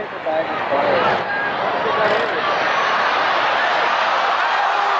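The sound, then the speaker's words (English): A football stadium crowd roars in a steady, dense wash of noise, with scattered shouts and voices rising briefly out of the din and no one speaking clearly over it. “Oh, you're just hearing the crowd.”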